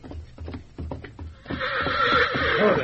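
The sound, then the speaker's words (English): A few heavy, uneven thuds like stamping hooves give way to a stallion's loud, sustained whinny, a quavering, shrill neigh that carries on until the end, as the stallion acts up in a lean-to. “Hey, that stallion's still acting up in the lean-to. Bring him out here.”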